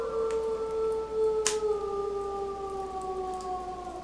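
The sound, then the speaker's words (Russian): Wolves high in the mountains, far away, howl in long, sustained, slowly falling tones, several voices overlapping in a steady chorus, with a brief sharp click partway through. “Это волки. Здесь, высоко в горах, их много, но они не потревожат нас.”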